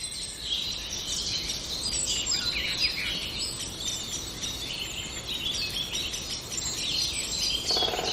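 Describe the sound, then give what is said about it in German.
Common blackbird calls ring out among busy, overlapping bird chirps that fill the whole stretch, a steady outdoor chorus with no talking. “Das ist doch eine Amsel, keine Singdrossel.”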